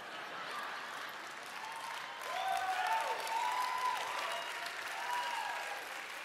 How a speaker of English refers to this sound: If you're new to the faith and you don't know why people are clapping, you need an interpreter if you're prophesying in tongues, but people have hijacked the gifts of the Spirit.